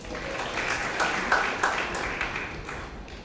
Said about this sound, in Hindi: इनके लिए भी ताली बजाओ।